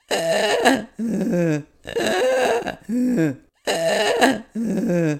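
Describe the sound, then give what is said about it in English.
A human voice imitates the snoring of a 23-year-old cat: three rhythmic cycles of rough, throaty in-and-out breaths, each a gravelly rasp followed by a lower, wavering groan, with short pauses between. “That's a lot what she sounded like.”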